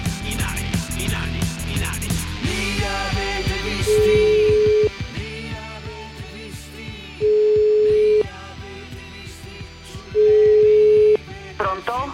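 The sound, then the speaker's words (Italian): An outgoing phone call to Richard Benson's home: brief dialing sounds at the start, then three steady, mid-pitched ringback tones, each about a second long and spaced a few seconds apart, over a low background hum. “io voglio fare una telefonata per capire come stanno le cose, qual è l'atmosfera.”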